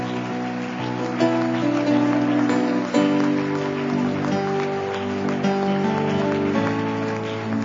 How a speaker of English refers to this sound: Can we clap our hands one more time?